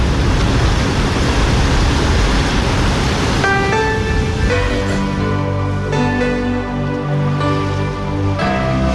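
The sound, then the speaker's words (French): A loud, steady roar of waves washing onto the shore fills the first few seconds, then sustained musical tones rise and continue over a softer wash of surf. “Et c'est pas possible d'aller le ramasser parce qu'il y a des vagues, je peux pas aller jusque-là.”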